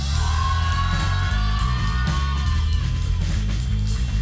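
A live concert crowd cheers, whoops and applauds loudly and continuously for the band's drummer, the clapping dense, with a heavy low rumble running underneath the whole time.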